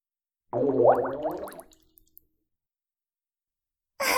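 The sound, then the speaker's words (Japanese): A burst of wet, bubbling gurgles as the bubbles of a fart rise through water from the crotch, a quick run of squelchy pops lasting about a second, then a faint drip and a short sputter of bubbles after a pause. “ポコポコって、泡が上がってくるから。”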